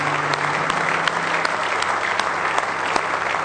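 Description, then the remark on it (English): An audience at a morning church service claps hands in praise, a dense, steady wash of many hands applauding together with a few sharper claps standing out, sustained loudly throughout with no speech. “Now give him another good hand clap of praise if you love him this morning.”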